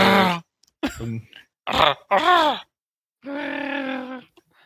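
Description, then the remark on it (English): A person attempts a Wookiee growl with their voice, producing a series of four or five rough, groaning, throaty bursts with wavering pitch, ending in one longer sustained moan. “I can't do a Wookiee growl thing.”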